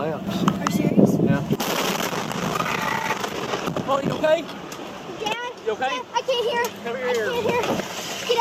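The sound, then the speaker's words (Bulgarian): A loud explosion filmed by a father on his phone while with his small daughter: a heavy, rumbling burst of noise in the opening seconds, then voices talking over lingering background noise. “беше на малко момиченце, чийто баща успява да заснеме взрива с телефона си. Чува взрив и дъщеря му се оплаква, че си заглушени ушите и нищо не чува и го моли да си тръгват.”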